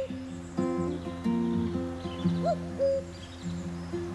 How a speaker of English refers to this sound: So come May time, you're desperately trying to fill your pockets with money and make sure you're well fed and not hanging around graveyards. Stay away from graveyards, in case you hear the cuckoo.